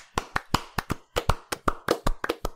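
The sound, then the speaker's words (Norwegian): A short burst of applause as a game of the year winner is announced: sharp, crisp hand claps in a quick, slightly uneven rhythm, roughly a dozen or so, from what sounds like a few people, with no talking. “En liten applaus.”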